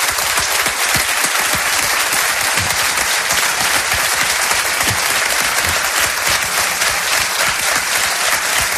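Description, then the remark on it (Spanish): A studio audience in Spain applauds steadily for the listeners of the radio stations Onda Cero, COPE and SER, broadcasting jointly, a dense, even wash of many hands clapping at constant loudness for nearly nine seconds, with no voices over it. “Me gustaría que el público aquí asistente enviara un aplauso a los oyentes de esas tres emisoras, que suban 8 millones de oyentes.”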